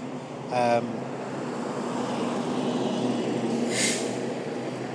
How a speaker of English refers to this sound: Garbage truck just went by, but we're just coming up to the apartments at Bunting and Roehampton,